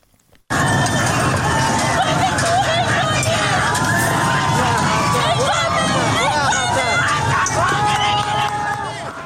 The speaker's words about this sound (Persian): بر اساس ویدئوهایی که در شبکه‌های اجتماعی منتشر شده، معترضان در مقابل فرمانداری فسا تجمع کردند. برخی از تصاویر نیز درگیری ماموران انتظامی با معترضان و شلیک به سمت آنها را نشان می‌دهد.